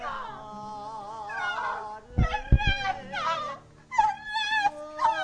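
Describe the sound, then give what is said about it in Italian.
A dog whimpers and cries in high, wavering whines that rise and fall, broken by a few sharper yelps, fairly loud with no one talking. “Neanche Sofia Loren nella ciociara piangeva così.”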